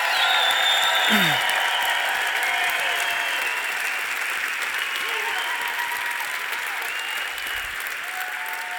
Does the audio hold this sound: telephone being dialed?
no